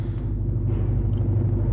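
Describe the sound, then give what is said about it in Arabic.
A car engine rumbles steadily while driving, a deep continuous low drone with faint road noise above it, holding at an even loudness throughout with no voices. “سيارة تلاحقنا، والله أعلم ماذا يريدون.”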